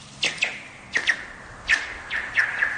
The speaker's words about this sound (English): he discovered something when he decided to skip a rock across a frozen lake